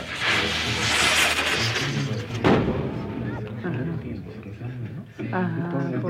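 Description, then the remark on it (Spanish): Firework rockets crackle and boom outdoors during a wake in a house, with a sharp, loud burst partway through and a hissing wash early on, while a person talks over the noise. “Allá, de vez en vez, afuera reventaban cohetes.”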